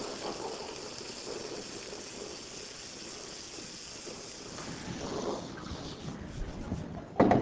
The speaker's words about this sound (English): So, over here, I've got a plastic soda bottle. Now, what I'm going to do is I'm going to pour liquid nitrogen into the plastic soda bottle.